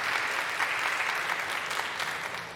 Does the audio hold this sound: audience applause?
yes